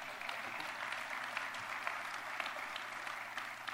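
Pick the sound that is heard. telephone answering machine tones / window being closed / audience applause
audience applause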